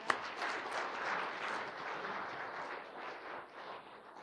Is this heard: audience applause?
yes